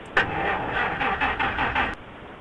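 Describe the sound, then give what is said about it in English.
A car engine knocks and chugs in a rapid, uneven rhythmic pulse, fairly loud, for about two seconds before cutting off abruptly. No one speaks. “I can hear the engine knocking.”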